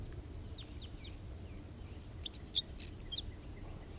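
A male crossbill sings a scattered series of short, high chirping notes, fairly soft, over a steady low rumble, with a brief louder note near the middle.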